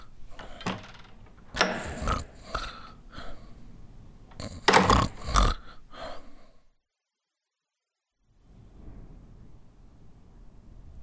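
A dog snores in a run of loud, raspy, snorting bursts at an uneven rhythm, then falls silent before a faint low rumble returns.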